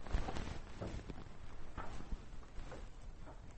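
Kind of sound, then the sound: animal, horse galloping hooves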